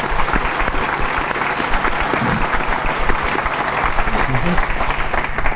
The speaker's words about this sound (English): So could I ask you one more time to applaud this God who is so good to us?